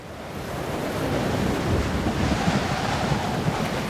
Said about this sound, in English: Oh no, the storm damages the rudder and the submarine rocks from side to side.